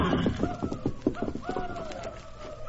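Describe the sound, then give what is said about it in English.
Horses, including Silver, are sent off out of the way of approaching Apaches, hooves clip-clopping in a quick, uneven rhythm, moderately loud, with voices murmuring over the hoofbeats. “Get the horses out of the way.”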